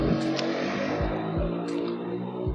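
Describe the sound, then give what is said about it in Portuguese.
A motorcycle passes by, its engine a loud, steady droning rumble with a slight rise and fall in pitch as it goes, with no talking over it. “Olha a moto aí, passando.”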